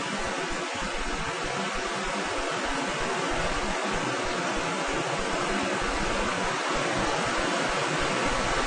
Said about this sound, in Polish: Troszkę nam ten deszcz przeszkadza, ale myślę, że głośniej jeszcze przemówić. Braterstwo nie bardzo słyszą tam na dworze, bo jest duży hałas.